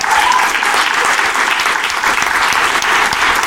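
audience cheering and applause

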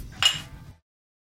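glasses clinking

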